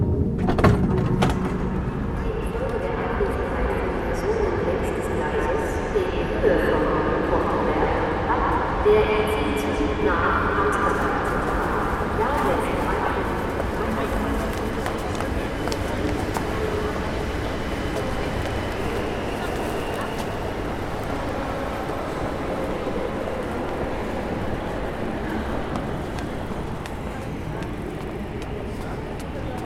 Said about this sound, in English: Some people say this is the most beautiful railway station in the world, with its staircase like a waterfall, leading to the main hall like a ballroom of steel and glass.